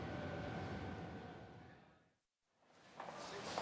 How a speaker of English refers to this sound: Look, here's the train.